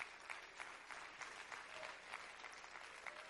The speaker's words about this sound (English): Can you clap your hands to the Lord? Can you just clap those hands a little bit louder?